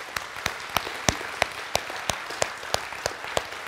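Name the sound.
audience applauding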